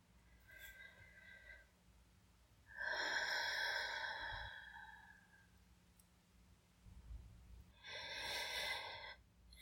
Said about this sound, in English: Let's do a breathing exercise. It'll help relax you.